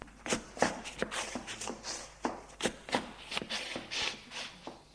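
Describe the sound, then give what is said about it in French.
Uneven scuffling of feet and shuffling steps as a man drags a woman, a burst of rough dragging movement with about a dozen irregular thuds and scrapes over a few seconds, no voices. “Il la tire.”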